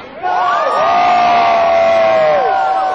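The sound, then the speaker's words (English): A large crowd of climate change demonstrators, nearly all dressed in blue, cheers and shouts loudly and continuously around the Houses of Parliament, making as much noise as possible at organizers' request, with overlapping whoops and raised voices forming a sustained roar that swells after the first moment and holds for several seconds. “Organizers asked people to make as much noise as possible.”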